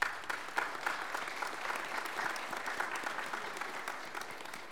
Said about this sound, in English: I wanted to ask if you were here yesterday, please stand up and so we can give you a round of applause for the work you were able to do. Please stand if you were able to come and help out.